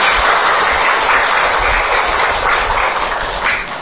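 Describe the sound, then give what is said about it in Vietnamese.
A Buddhist audience at a monk's Dharma talk applauds in a dense, steady wash of clapping that holds at an even, fairly loud level for about four seconds, with no voices over it. “Xin rõ cho một tràng pháo tay.”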